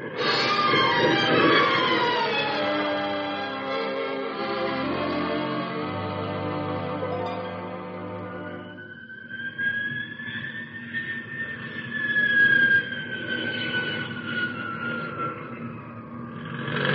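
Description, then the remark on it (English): A jet aircraft comes in to land smoothly, its loud engine roar layered with whining tones that slide downward, then settles into a steady high whine that slowly falls in pitch. No voices. “She came in nice and smooth.”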